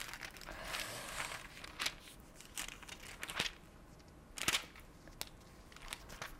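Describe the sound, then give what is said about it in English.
Thin book pages that are sticking together rustle and crinkle as they are turned and pulled apart, with a series of sharp crackling snaps over a soft, continuous papery rustle. No one speaks. “Sorry, my pages are sticking together.”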